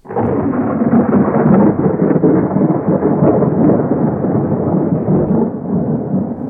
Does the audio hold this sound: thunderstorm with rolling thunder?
yes